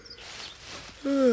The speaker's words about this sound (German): Das war nur der Hahn.